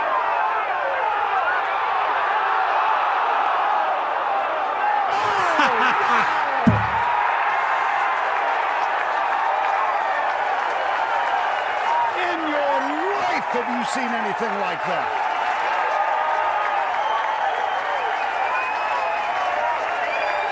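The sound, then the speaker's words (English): A large outdoor golf crowd roars and applauds after a shot toward the hole, in a sustained, loud wave of cheering and clapping, with whoops rising above it and a commentator speaking briefly over the noise. “And that's why you need the crowd.”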